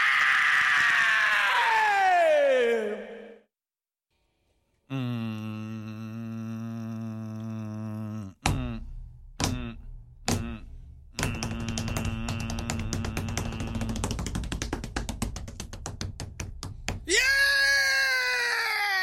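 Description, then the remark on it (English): Recorded rock music: a high, falling wail, a pause, a sustained synth tone, then pounding drums and band, capped by a loud, ragged, high-pitched sung scream over the crashing music. “The greatest scream in rock and roll in your blood.”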